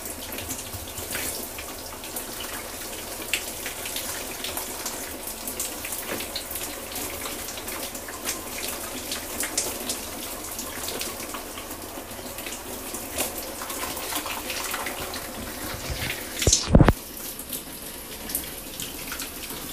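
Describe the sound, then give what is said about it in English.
Very hot water runs from a tap for a shower in a steady, dense splashing hiss with no one speaking; near the end a brief sharp knock briefly interrupts the flow, which then continues evenly. “I don't know why, but like water that's like really hot feels like really nice.”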